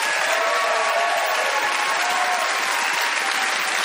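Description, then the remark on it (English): A crowd applauds steadily, a dense, even wash of many hands clapping at a constant loudness for the whole few seconds, with no voices standing out; an audience voting by applause for comedian Alan Park's argument for civil disobedience. “By applause, who thought that Alan's pro-disobedience diatribe got the most positive result?”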